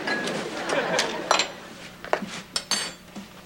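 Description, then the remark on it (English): Silverware clatters and clinks in a quick, irregular series of sharp metallic hits as a silverware tray is emptied, pieces dropped and shuffled one after another, with a faint murmur of voices behind. “Why don't you empty that silverware tray so your mother can sterilize it?”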